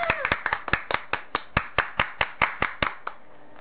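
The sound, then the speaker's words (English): Applause sound effect played as cheers for the guests: crisp, steady hand claps, about a dozen and a half snapping out in an even rhythm for a few seconds before trailing off, with no clear cheering voices. “Where's our cheering thing? Our what? Cheers. Cheers for the guests.”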